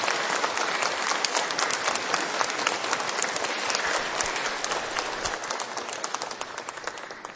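Sustained applause from an audience at a Holy Mass, a dense, steady wash of many hands clapping at a fairly even loudness for several seconds, with no talking over it.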